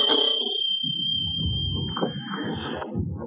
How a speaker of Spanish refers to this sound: Vuelve al escritorio y toca el timbre con fuerza.